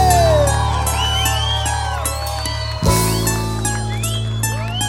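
A crowd cheers and whoops with scattered clapping, rising and falling pitched shouts over a steady, loud musical backdrop that shifts partway through.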